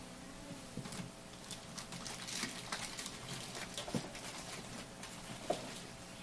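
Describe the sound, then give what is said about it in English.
Water splashes and patters irregularly, like liquid being poured out of a container, with scattered bright drips and gurgles over a low, steady background hum. Fairly quiet, no voices. “Looking for water, I do not find. Maybe there's some water in here.”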